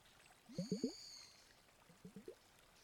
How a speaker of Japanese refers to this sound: あ、そうだ、この筒に水を入れて。